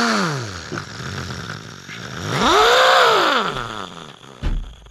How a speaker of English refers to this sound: Okay, good. Engineer Sam is here on his motorcycle.